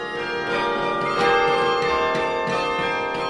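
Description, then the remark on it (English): Carillon bells at the top of a tower in Berkeley, played by fists striking the large levers and foot pedals of a keyboard linked by cables to the bells, ring out in overlapping, sustained tones, several notes struck in succession and blending into a loud, shimmering wash with no talking. “These connect to cables that run up to bells in the space above us.”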